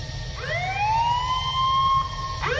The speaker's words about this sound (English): Whatever her next words might have been, they were cut short by the blare of an alarm, followed by words that echoed throughout the ship.